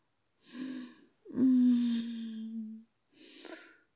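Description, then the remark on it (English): Three breathy vocal sounds: a short gasp, then a long, drawn-out voiced moan, and a final airy gasp, with no words spoken. “Hear the little gasps and moans that escape my lips.”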